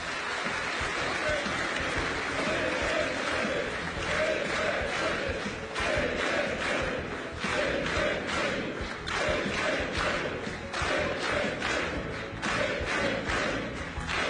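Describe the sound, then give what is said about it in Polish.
A large crowd at a Polish election rally applauds and cheers continuously for party leader Jarosław Kaczyński, a dense, loud wash of clapping with shouts rising and falling throughout and no break in the noise. “Wielkie brawa.”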